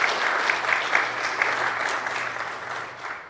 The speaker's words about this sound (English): I think he did a wonderful job, and I think we deserve to give him a round of applause for this.